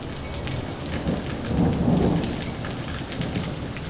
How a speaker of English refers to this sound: and I'm wondering, because I'm sitting in a lightning storm right now, how hot is lightning?